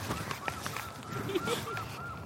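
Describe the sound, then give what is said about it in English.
A seagull gives a series of repeated, slightly nasal calls in quick succession over a steady outdoor background hum, in sunshine at a woodland a long way inland. No one speaks. “That's an intrepid seagull.”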